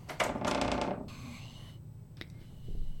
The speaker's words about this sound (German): Die Stille wird nur gestört durch eine sich öffnende Tür.